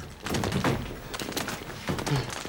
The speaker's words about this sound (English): Ali stands back and watches as the soldiers riddle the house with bullets.